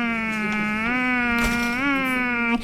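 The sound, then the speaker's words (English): A steady, angry mosquito whine drones for nearly three seconds, loud and nasal, with its pitch rising slightly a couple of times before cutting off abruptly. “Well, Mosquito was disappointed, and her feelings were hurt, and now she was very, very angry.”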